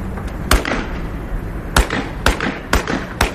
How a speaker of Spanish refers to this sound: Estos son tiros. Y esto nos sitúa en el cine experimental, digamos, que también ha puesto el foco en el tema de ETA.